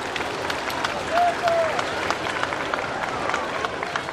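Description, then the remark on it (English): A large crowd cheers and applauds steadily as a visitor, escorted by horses from the Portuguese School of Equestrian Art, covers a short distance to a pink waterfront former royal residence; a dense wash of clapping and voices with a couple of brief whistles rising above it around the middle. “moments later, as protocol dictates, he called on him in his pink waterfront once royal residence with its terraced gardens, covering the short distance escorted by horses from the famous Portuguese School of Equestrian Art as the crowds cheered.”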